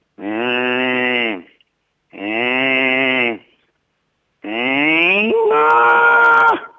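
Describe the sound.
A person imitates a cow at a pasture in Ilomantsi that comes to check out someone who has stopped there, giving three long, loud moos with short pauses between; the last one rises and shifts pitch partway through.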